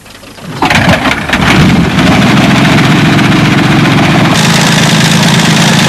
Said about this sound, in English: And the petrol engine has been developed to give greater and greater power.